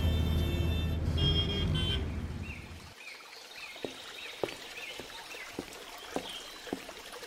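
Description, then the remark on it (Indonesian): A route bus engine rumbles loudly with a brief horn toot, then drops away after a few seconds, leaving quieter street ambience with scattered clicks and faint bird chirps. “Tuh, itu bus jurusan yang kita tuju.”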